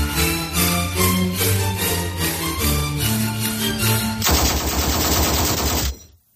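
A short melody plays over steady, rhythmic bursts, then a sudden loud barrage of rapid gunfire swamps the music entirely before stopping abruptly. No one speaks.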